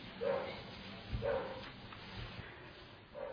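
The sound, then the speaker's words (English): A dog barks and whines outside, three short complaining yelps spaced a second or two apart, fairly faint against a quiet background. “Never knew I was going to talk about that tonight until the dog started complaining.”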